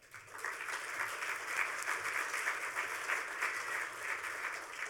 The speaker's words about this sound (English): But let's give these guys a round of applause.